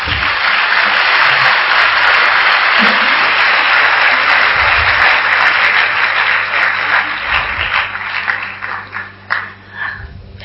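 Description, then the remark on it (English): An audience applauds steadily in a dense wash of clapping that holds for several seconds, then thins out and trails off into scattered claps and quieter murmurs near the end. “Clap.”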